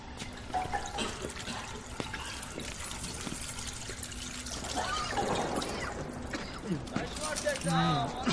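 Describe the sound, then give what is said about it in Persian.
Water pours steadily, a continuous splashing trickle that swells slightly toward the end, with faint voices speaking in the background. “آبش بزن، آبش بزن.”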